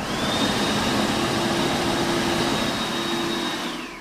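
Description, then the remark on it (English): A loud, steady electric whoosh of blowing air with a whining high tone, an electric hand dryer running continuously in a white-tiled toilet with two cubicles, before starting to wind down at the end. “And there's also a hand dryer.”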